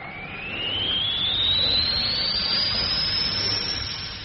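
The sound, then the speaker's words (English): Air vents out of an airlock through an opened valve as the pressure gauge drops toward zero: a loud, steady rush of air, a broad hissing roar with a thin whistling tone that climbs steadily in pitch. There is no talking. “Open the valve. Let the air out.”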